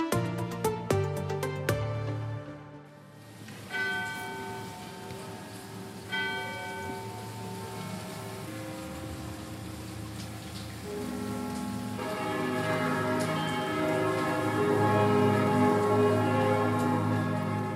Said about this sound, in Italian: Ai rintocchi delle campane della chiesa di San Martino, anche Coira alle 14 si è fermata per un momento di raccoglimento dedicato alle vittime del tragico incendio di Cramontana nella giornata di lutto nazionale.